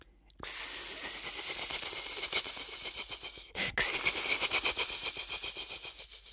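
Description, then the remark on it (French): A voice imitates a snake with a long, loud, sharp hiss, broken by one brief pause around the middle before the hissing resumes steadily to the end. “Le serpent. Parfait.”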